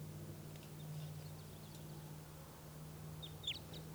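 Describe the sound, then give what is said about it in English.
A crossbill's type 2 call from bird 387 in the background: a few short, sharp downslurred kip notes near the end over a steady low hum, with fainter chips earlier. No one speaks. “Nothing, that other type 2 in the background is bird 387.”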